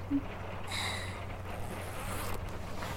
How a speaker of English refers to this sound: Do you want to get more hands-on and help me out of it? Just slide the zipper down.